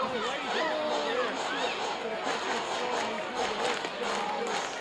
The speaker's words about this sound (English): Big Monday night crowd, over 4,100 in attendance tonight at Pelican Stadium.